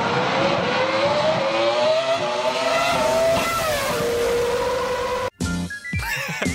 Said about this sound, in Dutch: En de meest succesvolle Ferrari Grand Prix auto ooit gebouwd, zegt Arm Sotheby's. En hij heeft ook weer die heerlijke, heerlijke 3 liter V10 motor.